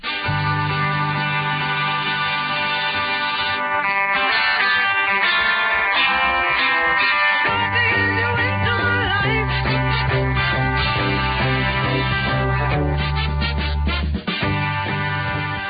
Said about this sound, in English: is a full-throttle R&B workout complete with horns, an effortless salute to soul labels like Motown and Stax.